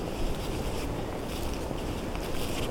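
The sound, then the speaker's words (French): Steady, full-bodied wind rushes through dense trees, a continuous low roar with a soft airy hiss on top and no pauses or voices. “Je suis ici, forêt épaisse, écho du vent.”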